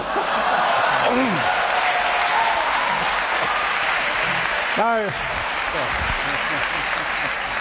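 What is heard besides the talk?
audience clapping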